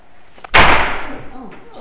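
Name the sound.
door slamming shut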